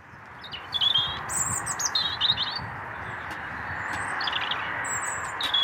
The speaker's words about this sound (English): And, of course, they were accompanied by some lovely birdsong.